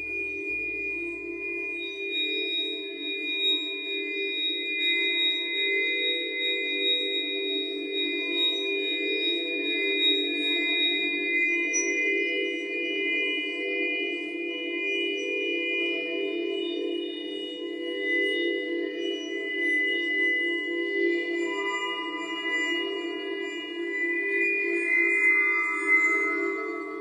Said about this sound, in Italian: perché i suoni del calcare, potremmo qui ascoltarlo, non sono altro che dei suoni liquidi, perché il calcare dal punto di vista geologico non è altro che acqua fossilizzata. Io direi di andare ad ascoltarlo il calcare.